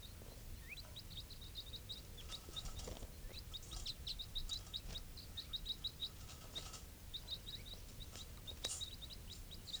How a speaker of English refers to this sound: So recording, these are the calls of one of the wild birds.